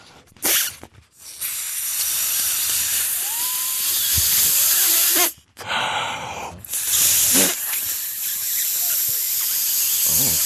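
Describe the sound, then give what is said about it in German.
Air hisses steadily and loudly as a balloon is pumped up until it is close to bursting, in long continuous bursts broken by a couple of short pauses, with no voices. “Aber das Platzen des Luftballons gleich nach der nächsten Musik”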